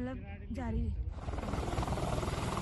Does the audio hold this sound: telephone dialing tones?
no